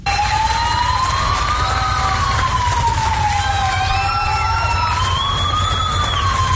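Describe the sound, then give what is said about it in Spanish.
Police car sirens of the Policía Nacional wail continuously on Joan Crespí street in Palma, sounded toward the people, their pitch slowly rising and falling over a steady rumble of engine and street noise, loud throughout. “hacían sonar las sirenas, la policía hacia la gente, con ese aliento, y también los vecinos hacia la Policía Nacional.”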